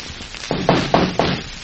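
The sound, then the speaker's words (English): Four firm knocks on the door of room 6 at the head of the stairs, in a quick, even rhythm, each a dull, hollow thud with a short ring-off, heard alone with no talking. “Knock on the door.”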